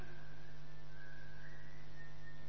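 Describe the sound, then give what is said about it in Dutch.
Someone whistles a long, steady note that wavers slightly in pitch, moderately loud, over a constant low electrical hum. No one speaks. “Telefoons, fluitende mensen.”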